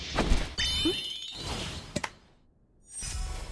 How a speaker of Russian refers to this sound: Что? Какого черта с неба упал горшок?